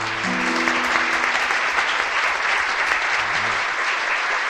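Steady, dense audience applause fills the whole stretch, many hands clapping at an even loudness, with a faint low sustained tone fading out in the first second.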